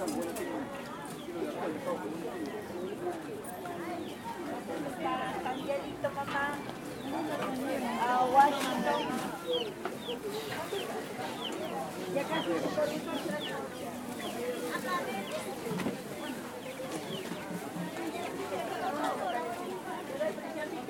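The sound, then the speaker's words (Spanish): A busy open-air Sunday street market in Huancayo, Junín, Peru, at 9:34 in the morning, selling vegetables, fruit and chicks: a constant hubbub of many voices chattering, with chicks and fowl peeping and clucking throughout, all at a steady, crowded level. “Todos los domingos hay una feria donde uno puede encontrar vegetales, frutas, la venta de pollitos y mucho más.”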